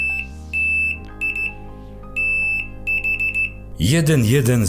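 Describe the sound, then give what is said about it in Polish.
A steady high-pitched tone beeps on and off in a Morse code pattern of long dashes and quick short dots over a low hum, then a man's voice starts speaking; the signal is repeated from earlier in a radio broadcast. “A teraz, proszę Państwa, odezwie się znowu ten sygnał, który był wcześniej w naszej audycji na początku. Uwaga, zamorsujemy sobie znowu.”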